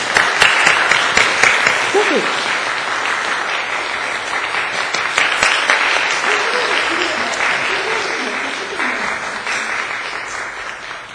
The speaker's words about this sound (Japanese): 早速先生を講談に、お招きしたいと思います。拍手を持って、お招きしましょう。